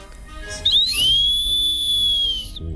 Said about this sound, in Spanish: O mira, vamos a probar con otro objeto, ¿vale? Este es un silbato.